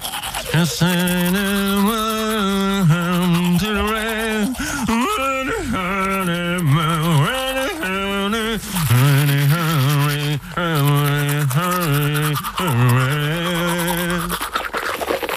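A person hums a muffled, wavering melody while brushing their teeth, the steady scrubbing of the toothbrush running underneath the tune, fairly loud throughout.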